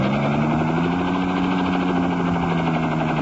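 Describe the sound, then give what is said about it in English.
A helicopter roars steadily, its dense rotor-and-engine drone filling the air while the pitch sinks slightly as it zooms swiftly downward over barren rocky ravines in the Valley of the Dead. No voices. “Suddenly, the helicopter zooms downward swiftly.”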